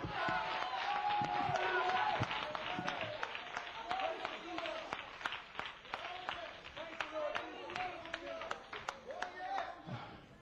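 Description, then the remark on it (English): A church audience claps their hands for God during a sermon, in a dense, uneven burst of sharp claps that runs throughout, with a murmur of voices and occasional shouts underneath. “Give God a hand clap tonight.”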